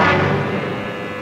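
An old taxi's engine runs loudly and steadily, a rough, droning rumble with a strained tonal whine that holds throughout, no voices.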